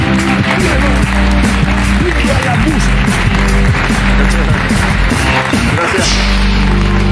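A crowd applauds loudly and steadily for several seconds, a dense wash of clapping with voices calling and cheering mixed through it.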